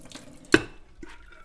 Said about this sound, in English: And I'm just gonna add water, which will be then used for final cooking. How much water are we adding? For 1.5 cups, I would add 1 liter of water.